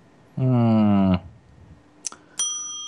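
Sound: small bell ringing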